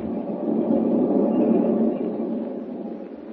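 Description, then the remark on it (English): A steady, low rumble of a westbound passenger train running on rails, continuous and fairly loud throughout, with a dense rolling roar and no voices. “With Lois Lane, an unwilling passenger on a westbound train, and Clark Kent about to receive a telegram that will send him hurrying back east”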